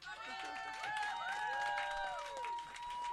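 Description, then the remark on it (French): An audience at a show applauds steadily for about three seconds for a performer about to do a magic trick, dense clapping with excited crowd voices and whoops rising over it, along with a sustained tone in the background. “Applaudissez-le fort!”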